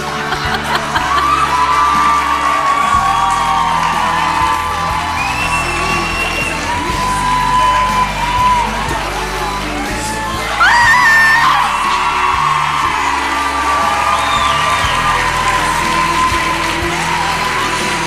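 A loud live crowd cheers, whoops and yells continuously, with scattered high shouts rising above the roar and a brief surge of excitement partway through.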